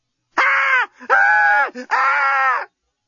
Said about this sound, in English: Lucy had never screamed so well or so effectively in her life. Unfortunately, the effect was not to bring Dan running to her rescue, but to attract the unwanted attentions of her murderous assailant.